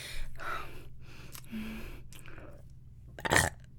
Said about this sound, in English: Burping is so sexy.